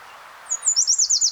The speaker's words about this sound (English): I'm not sure what kind of warbler this is, but I'm gonna record it.